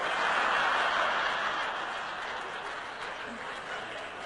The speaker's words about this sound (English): I don't mind you laughing at that, but don't applaud.